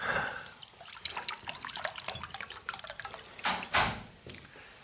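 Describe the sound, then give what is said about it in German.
Water splashes and trickles into a glass in a quick burst of small drips and gurgles, fairly quiet, ending with a couple of louder splashes, as water is poured for a guest in a box at the Munich arena. “Nimmst du Wasser? Ja, nehm ich.”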